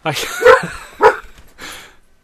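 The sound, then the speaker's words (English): A dog lets out two sharp barks about half a second apart, followed by a softer, shorter yip, fairly loud. “My dog responded to the nearest church.”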